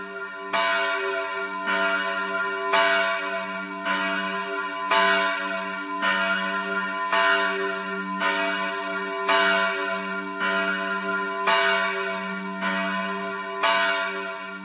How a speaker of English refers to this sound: It's a copy of the famous Liberty Bell from Philadelphia, made in 1918 to celebrate the foundation of independent Czechoslovakia. It hangs in the church of St. Anthony in the Prague area of Holešovice.